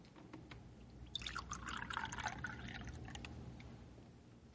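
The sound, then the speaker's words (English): Coffee is poured into a cup in a steady stream lasting a few seconds, with a soft bubbling splash as the cup fills, over a quiet background. “Here, I pour you one more cup of coffee”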